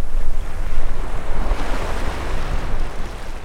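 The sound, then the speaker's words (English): Strong wind roars steadily across an open shoreline at Punta Morales on the Pacific coast of Costa Rica, buffeting the microphone over a constant wash of ocean surf. No voices, just a loud, continuous rush of air and breaking waves. “In a town called Punta Morales, the wind howls across the shoreline.”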